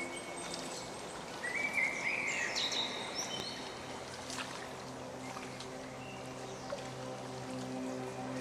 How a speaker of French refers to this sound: Au loin, vous entendez le clapotis d'un cours d'eau sur les roches et les chants joyeux des oiseaux alentour réjouissent vos oreilles.